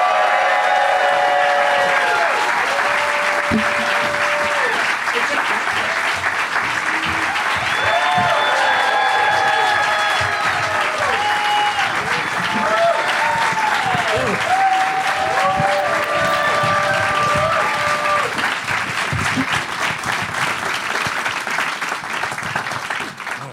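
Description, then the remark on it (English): A crowd bursts into sustained applause and cheering as Kumail Nanjiani, Michael Hitchcock, Ricky Lindholm and Zach Galifianakis are brought out. Dense clapping fills the whole stretch, with scattered whoops and high shouted cheers rising above it, staying loud throughout before easing slightly at the end. “Give it up, everybody, for Kumail Nanjiani, Michael Hitchcock, Ricky Lindholm, and Zach Galifianakis.”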